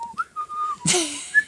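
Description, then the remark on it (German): A person whistles a short melodic phrase, clear, with gliding pitch, followed by a brief burst of breathy noise and a final high whistled note. “Nach solchen Beleidigungen werde ich auch Musik machen. Ich pfeife was jetzt.”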